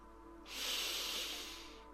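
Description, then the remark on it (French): A single long, deep first breath drawn in gently through the nose, a soft airy rush lasting over a second. It is fairly quiet, with no talking. “Prends juste une première grande respiration.”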